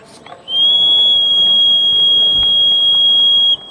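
A steady, piercing high-pitched pressure whistle from a breathing apparatus being turned on with the two valves on its T-type connector, sounding from 0 to 50 bar, starts abruptly after a brief rustle and holds at constant pitch and loudness for about three seconds before cutting off.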